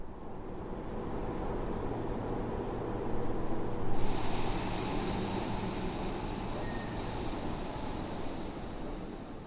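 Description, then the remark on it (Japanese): A steady low rumble inside a train arriving at Ekoda station, then a sudden burst of pneumatic hissing for a few seconds as the doors open, fading back to the rumble. No one speaks. “電車が江古田に着いてドアが開き、ホームに降り立った私はそうはならなかった。”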